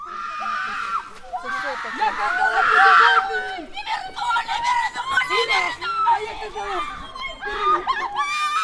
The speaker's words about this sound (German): Die Frauen schauen auf die Uhr. Da ertönt ein Schrei.